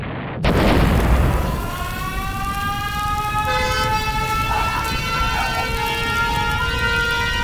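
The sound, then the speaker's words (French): Explosions in the city of Nantes, France: a sudden loud explosion erupts, its deep rumble rolling on for a second or two, then steady wailing sirens and horn-like tones sound over a continuous low roar. “Nantais, Nantaise, entendez-vous ces bruits, ces explosions?”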